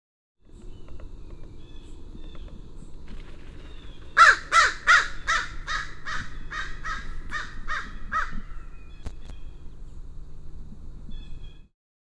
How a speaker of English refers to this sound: That was an American crow, and it just flew off, and I'm at the edge of the successional field on our property, and on the southern side of this is actually more of a forest.